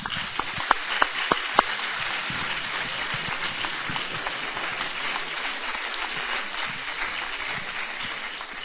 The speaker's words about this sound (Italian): Beh, ringraziare il professor Sabatini mi sembra inutile dopo questo lungo applauso così caloroso, l'ha meritato.